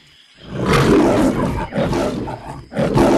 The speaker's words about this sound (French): Qu'est-ce que c'est? C'est un lion ou un éléphant? C'est un lion! Bravo!